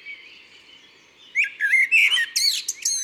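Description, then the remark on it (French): A common blackbird perched on a house roof in a quiet town neighbourhood with trees and gardens sings at dawn on 1 May, answering other blackbirds: a clear phrase of mellow fluty notes ending in a quick high twitter, after a second or so of faint background chirping. “Le merle est perché sur le toit d'une maison, bien en vue, et il répond à d'autres merles du quartier.”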